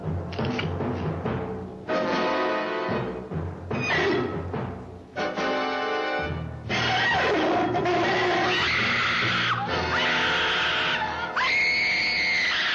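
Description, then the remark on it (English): Loud, shrill screaming from a hot dog that has just been bitten: several separate bursts in the first few seconds, then a long unbroken stretch of wailing shrieks that rise and fall in pitch. No talking. “It screamed so loud that you could hear it all over town, so I had to throw it on the ground and step on it.”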